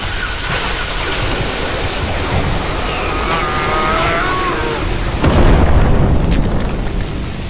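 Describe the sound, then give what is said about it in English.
Walls crumble and a tower collapses in a loud, continuous rumbling roar of debris, with a heavier crash breaking through near the end. No voices are heard. “The walls have crumbled.”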